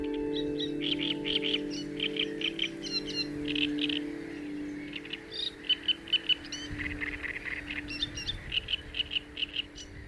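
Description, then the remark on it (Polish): Gulls call over and over in a rapid string of sharp, squealing cries. The cries rise and fall against a steady low hum, with no one speaking. “I mewy do nas też się muszą przyzwyczaić, bo innego wyjścia nie ma chyba.”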